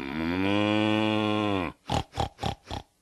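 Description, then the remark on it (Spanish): A long, drawn-out cow moo gives way to four short, rough pig grunts in a quick, even rhythm. The animals sound clear, with no one talking. “Desde hacía 5 años que había decidido irse a vivir al norte para tener una granja donde criar vacas y puercos.”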